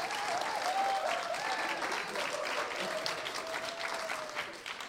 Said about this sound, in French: Nous sommes devant un large public auquel d'ailleurs je vais demander d'applaudir là, pour vous manifester un petit peu.